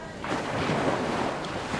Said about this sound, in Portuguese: O tá é a água do mar batendo nas pedras.